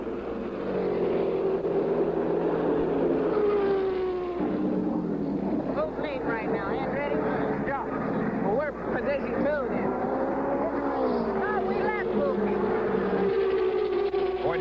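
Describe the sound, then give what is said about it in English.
A race car engine roars steadily, its pitch climbing and dipping as Mario Andretti's car blasts down the front straight of the race track, while a man commentates excitedly over the loud, continuous engine noise. “But Unser goes into the pits again as Andretti blasts down the front straight.”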